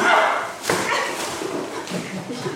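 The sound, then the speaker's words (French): Dogs bark and yelp in a burst of agitated noise during a morning meditation session, with a sharp gunshot crack near the start and raised, screaming human voices mixed in, all fairly loud and chaotic. “Et un matin, des coups de feu en pleine méditation. Des hurlements, des chiens partout.”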